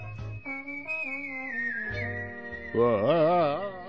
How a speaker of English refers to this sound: Hold on to your seats, everybody. We're listening to the sonic whistling of a woman